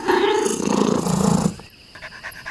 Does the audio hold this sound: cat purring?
yes